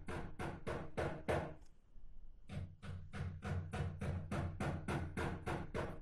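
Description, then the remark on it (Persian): A neighbour hammers nails into the wall of their home at 2 a.m.: rapid, evenly spaced hammer blows, a run of about six hits, a short pause, then a longer burst of about ten sharp, loud knocks with no talking. “همسایه جان ساعت 2 بجه شب چکش به دست گرفته و میخ به دیوار خانه خود میکوبه.”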